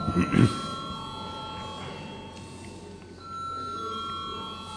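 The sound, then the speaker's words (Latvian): A parliament chamber voting bell rings as a steady, sustained electronic tone lasting several seconds, called for before a first-reading vote on a bill amending the road usage fee law, following a brief burst of speech at the start, with faint murmur underneath. “Lūdzu zvanu.”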